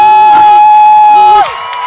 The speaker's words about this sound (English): Let's rise up to our feet. I want us to appreciate Daddy and Mommy. Yeah. Please, just if you want to shout, shout. If you want to clap, clap.